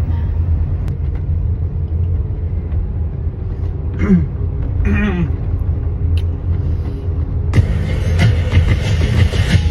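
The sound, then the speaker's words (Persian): A heavy, continuous low rumble of a metro train rolling past, heard in front of the metro, with brief rising tonal whines midway and a brighter rushing hiss building near the end; loud throughout. “جلوی مترو وایس معلوم میاد.”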